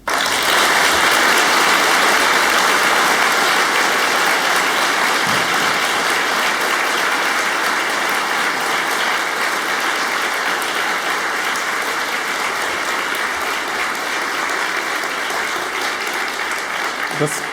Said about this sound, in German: Da stecken sehr viel Herzblut drin, sehr viele Hacker und Nerds, die irgendwie Bock haben, was Cooles zu organisieren. Und dafür müsste man mal richtig laut klatschen.